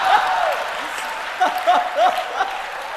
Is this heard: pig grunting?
no